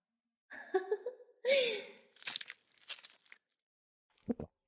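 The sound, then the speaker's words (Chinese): Crisp crunchy chewing in a few irregular crackling bursts, followed by a short pause and a final quick crunch. Murmured vocal sounds come just before the chewing. “你给我嚼碎呀，谁让你直接吞下去了，给我嚼碎，对，嚼”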